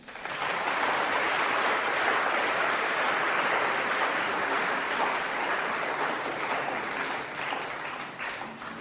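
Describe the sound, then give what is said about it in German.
An audience claps steadily for several seconds for a volunteer coming forward, a dense, even wash of applause that holds its loudness and thins slightly toward the end, with no voices over it. “Super, Applaus.”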